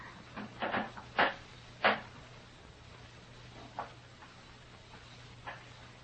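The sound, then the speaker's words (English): Wooden floorboards creak in a few short, irregular bursts, a cluster near the start followed by fainter creaks spaced further apart, against a steady low hum; a board creaks under a person who has stopped right outside a room's door. “I heard a board creak.”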